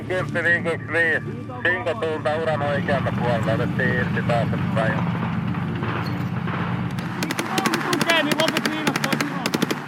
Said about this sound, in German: Also wir hören da, wie Panzer durch verschneites Gelände fahren, Hubschrauber fliegen, Soldaten in weißen Schneetarnanzügen stampfen da durch den Schnee, Sprengladungen explodieren auf Straßen, Verwundete werden durch den verschneiten Wald gezogen.